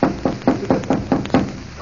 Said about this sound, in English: Shall we knock? Pray do.